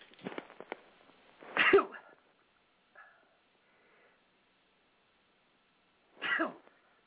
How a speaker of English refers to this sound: Apologize for the delay. I do three sneezes. That was a two.